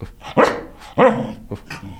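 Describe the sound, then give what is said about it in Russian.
A corgi barks loudly on command for a treat, two sharp barks followed by a few quicker, softer yips and a low grumbling growl, with no one talking. “Вот так лает корги.”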